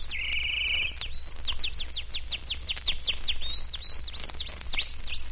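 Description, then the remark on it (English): A pet canary sings at home: a brief buzzy trill, then a rapid series of bright, rising chirps repeated steadily for several seconds over a low background hum. No one speaks. “Just telling our canary what a lucky guy he is.”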